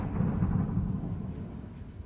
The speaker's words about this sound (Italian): I temporali! È ufficialmente finita l'estate.